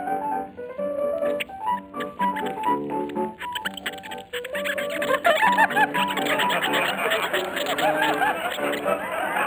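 A squeaky, warbling tune played on a lady's toe by a man who cannot play any musical instrument, its high reedy notes sliding and trilling over steady piano accompaniment, growing louder and busier in the second half.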